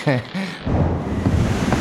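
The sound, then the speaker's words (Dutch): A brief voice is followed by a loud, steady roar of stormy wind and crashing sea noise, with rumbling low gusts that continue for a couple of seconds. “Koning Alonso en ikzelf vroegen ons af of je bijna klaar bent met die storm.”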